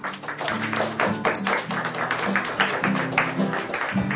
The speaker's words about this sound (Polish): O, klaski!